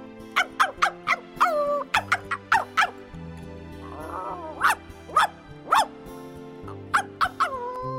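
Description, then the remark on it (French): A dog, Top, barks furiously at a deep well with water at its bottom, in rapid, uneven bursts, about a dozen sharp barks with brief pauses between them and a low steady musical drone underneath. “Lorsque nous l'avions découvert, Top avait aboyé furieusement et depuis, il n'arrêtait de rôder autour en grognant.”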